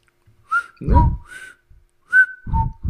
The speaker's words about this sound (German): Ja, ich kann ja in zwei Richtungen pfeifen, deswegen.